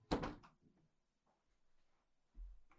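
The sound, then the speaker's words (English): A door that had just swung open is shut with a sharp thud and brief rattle, followed by quiet shuffling and a softer low bump near the end. “I'm going to close my door because it just opened.”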